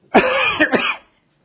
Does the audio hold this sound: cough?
yes